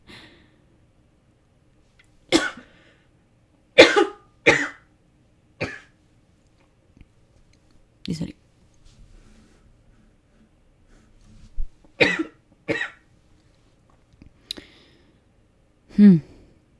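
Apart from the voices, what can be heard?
coughing fit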